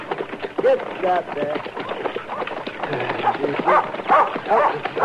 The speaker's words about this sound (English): Get away. Get away, dog.